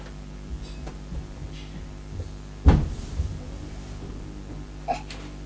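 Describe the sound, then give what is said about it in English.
A small door clunks sharply once, with a brief rattle after, followed by a softer click a couple of seconds later, all over a steady low background hum. “Can the door not open?”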